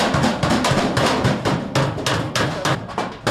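A hammer pounds metal in a blacksmith forge, delivering a rapid, steady series of loud ringing clanks, roughly three or four blows per second, over a constant rumbling background.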